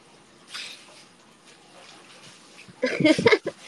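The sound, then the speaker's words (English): Warm water runs steadily from a tap into a bath as a soft, continuous hiss, then grows louder and more churning near the end, with splashy bursts. “I'm gonna sit closer to where the water's coming out because it's warm over there.”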